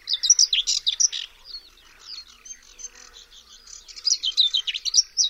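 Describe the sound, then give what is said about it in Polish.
A whinchat sings a short, scratchy, jumbled twitter of high chirps and buzzy notes, louder at the start and end with a softer stretch in the middle, no voices. “Jej śpiew to krótki, niespójny i zgrzytliwy świergot.”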